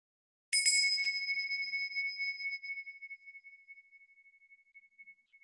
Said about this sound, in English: I will sound a bell, and that will be the start of today's session of the speciality workshop.